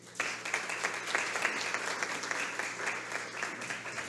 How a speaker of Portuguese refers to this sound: Agradecemos o pronunciamento da secretária municipal de Educação, Marcileide Stur, e convidamos com muita alegria o pronunciamento do excelentíssimo vice-prefeito de Santa Maria de Itibá, Rafael Pimentel. Uma salva de palmas.